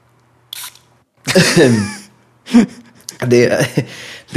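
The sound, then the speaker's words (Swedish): A short, soft hiss of a throat spray puffing once into the mouth, followed by sputtering, gasping vocal noises and strained throaty sounds. “det är en slags halsspray. Jag ska ta en dusch nu.”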